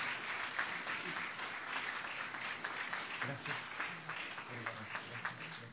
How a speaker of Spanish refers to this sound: Amén y amén. Le damos un fuerte aplauso, por favor. Gracias.